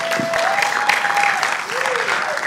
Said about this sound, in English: You should applaud and say welcome up here.